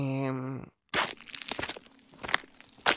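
A brief voiced tone, then a short pause, followed by several crunchy footsteps at an uneven pace, fairly loud.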